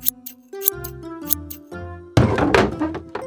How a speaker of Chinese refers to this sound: 突然，砰的一声，花花撞到后面的桌子，痛得哭了